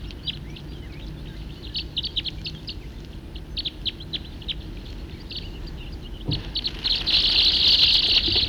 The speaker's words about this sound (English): Stop. Start. Recording the same birds.